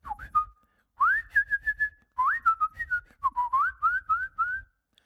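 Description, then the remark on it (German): Bright whistling imitating a small, colourful bird, in three quick chirping phrases of rising and wavering notes, with a faint low rumble underneath and no talking. “Ein kleiner bunter Piepmatz kommt pfeifend angeflogen.”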